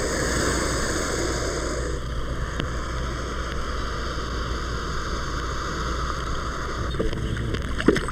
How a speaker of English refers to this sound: And the American alligator. Listen carefully again, and at the end of this next fluttering hiss, you can hear the alligator's giant jaws snap shut.